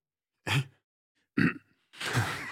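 Three abrupt, throaty hiccup-like bursts from a nearby voice, spaced by short pauses; the last is longer and breathier, almost a stifled laugh.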